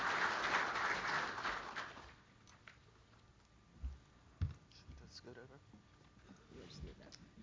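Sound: audience round of applause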